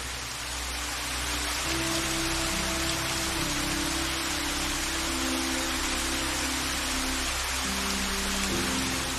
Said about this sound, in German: Lass dich von dem angenehmen Geräusch leiten. Mit jedem Schritt wird es lauter und lauter, bis du durch die Äste einen wunderschönen Wasserfall sehen kannst.